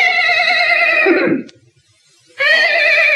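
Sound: horse neighing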